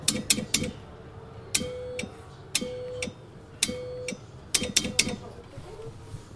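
Morse code tapped out on a clicking key, sounding a steady low beep: a burst of quick short clicks, three long held tones, then another run of short clicks.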